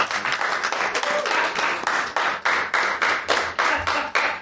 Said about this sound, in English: Round of applause in here.